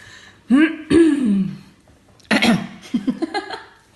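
Someone clears their throat: a couple of voiced, groaning pushes, then a harsh rasping burst trailing into a quick series of short, rhythmic hacks.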